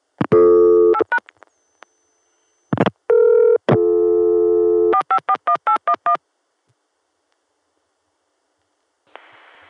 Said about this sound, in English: We've gone through to Chicago, you can hear the carrier noise.